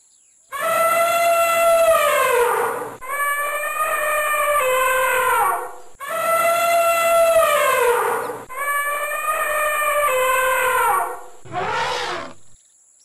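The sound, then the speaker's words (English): Loud, brassy elephant trumpeting: four long, blaring calls in two pairs, each sliding slightly in pitch, then a short harsh blast at the end, with no talking. “Elephant.”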